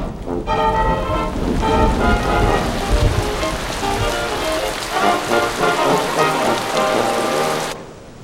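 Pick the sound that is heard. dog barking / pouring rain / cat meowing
pouring rain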